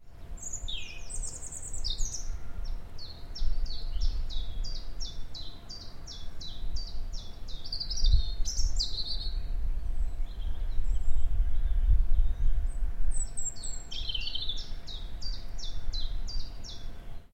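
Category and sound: bird, birdsong recorded outdoors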